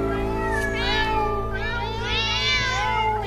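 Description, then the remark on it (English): A cat meows several times in a row, long wavering cries that rise and fall, clear, over a steady low background hum. “"Oh, don't let him in till it's all lapped up," somebody shouted, "meow."”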